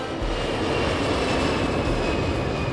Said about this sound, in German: Fast forward, ich sitze im Flugzeug. Und ich bin im Landeanflug auf eine Insel. Ibiza.